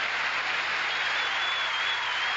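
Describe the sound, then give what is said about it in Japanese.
A large crowd of spectators cheers and applauds the Swiss runner Andersen during a race, in a steady, dense wash of noise that holds at an even, fairly loud level throughout, with no single voice standing out. “このスイスのアンデルセンに声援が行われております。”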